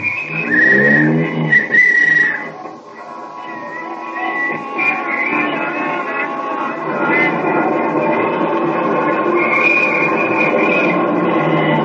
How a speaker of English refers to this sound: There'll be plenty of traffic tonight, so let's get an early start to the theater. Here's my cab, won't you step in? All right, driver, up Broadway.